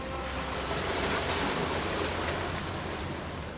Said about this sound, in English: These rhythmic and intricate waves are rolling over a jetty which juts into the San Francisco Bay at the northern tip of the city.